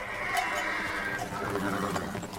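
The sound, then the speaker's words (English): Several horses that have smelt water whinny and snort restlessly over a steady, busy background, their calls rising and overlapping for a couple of seconds at moderate loudness with no speech. “They have smelt the water. The animals don't know if the water is salty.”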